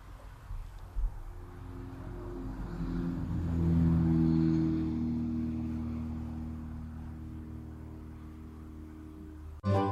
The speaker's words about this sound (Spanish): Está repetida, escuchamos el avión.